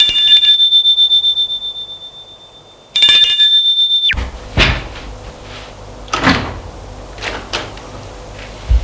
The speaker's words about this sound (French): Les jours passent. début de soirée, il sonne à une porte d'appartement.